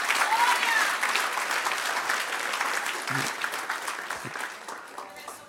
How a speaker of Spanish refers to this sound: Hay que volver a la ingeniería, darle un aplauso al que reina.